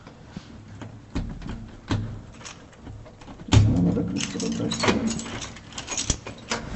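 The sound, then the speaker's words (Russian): Keys jangle and scrape in a lock, with repeated metallic clinks and a louder clunk midway as different keys from a set of six unlabeled keys are tried, plus faint background voices and shuffling. “У меня там вообще 6 ключей, ни один не подписан, все угадываю вообще.”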